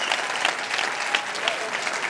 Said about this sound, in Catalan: Així que un fort aplaudiment a la gent, a l'ambient de les carres de Sitges i al cinema fantàstic.